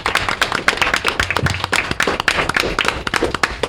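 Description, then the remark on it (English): A crowd applauds steadily, dense overlapping hand claps filling the space at a strong, even level for several seconds, with no voices standing out above the clapping. “I want to, can we get a round of applause for these folks?”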